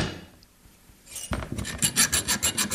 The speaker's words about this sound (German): rückt mit einer kleinen Säge dem Kruzifix zu Leibe.